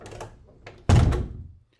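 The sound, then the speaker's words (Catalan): A door with an 18th-century lock is pushed shut, left unlocked, with a single heavy thud that rings out and fades over about half a second, after some quiet shuffling and creaking beforehand. “Entra. Tanca la porta”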